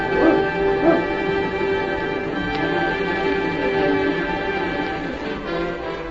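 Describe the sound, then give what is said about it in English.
A pack of sled huskies, led by a dog named King, barks and yips excitedly in a continuous, overlapping clamor as they are urged on, with some higher whimpering cries mixed in, steady throughout. “On, King! On, you Husky!”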